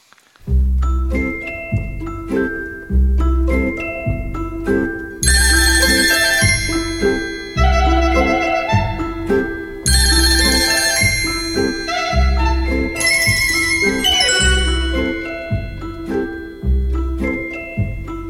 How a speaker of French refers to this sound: moi ce que j'aime beaucoup dans cette chanson, c'est il y a un arrangement que je trouve formidable, qui est brillant, oui. Avec des sonneries de téléphone, avec ce qui évoque les sonneries de téléphone.